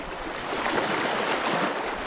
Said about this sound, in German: Da kommt eine große Welle.